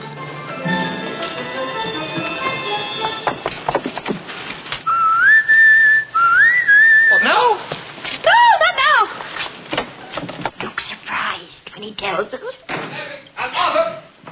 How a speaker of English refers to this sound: When you whistle, open the front door fast. If you see a tall, dark streak of light going, shh, it's me.